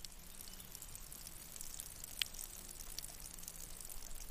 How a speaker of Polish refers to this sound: Tutaj mamy właśnie tą studnię artezyjską, woda, że tak powiem sobie, leci przez cały rok.